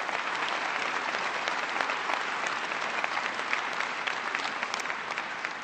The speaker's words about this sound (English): One of the outstanding leaders who helped shepherd this process through in record time, please give Max Baucus of Montana a big round of applause. Thank you, Max.